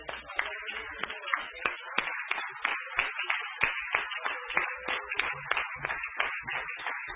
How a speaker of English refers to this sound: Let's clap our hands unto the Lord.